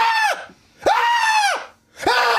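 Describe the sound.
A person imitates high-pitched screaming: three loud, sustained shrieks in quick succession, each with a sharp onset and a falling tail, separated by brief silences.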